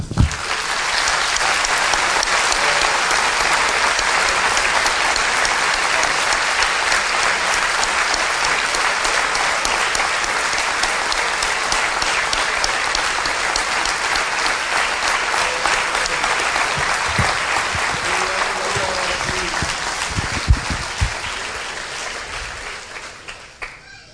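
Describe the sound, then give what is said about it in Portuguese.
A crowd applauds for Jesus during a sermon: a dense wash of many hands clapping at an even level for about twenty seconds before thinning and tapering off, with faint voices surfacing near the end. “Ah, podemos interromper aqui para bater palmas para Jesus.”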